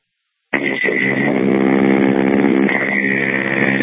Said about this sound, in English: Sounds like Jim's doing some mowing.